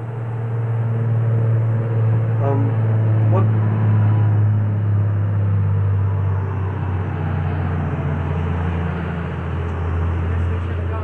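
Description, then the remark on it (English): Heavy trucks roll by outside, a loud, continuous low rumble and engine drone that fills the whole stretch without letting up, with a broad roar of road noise layered over it. “Kind of hard to hear those trucks rolling by.”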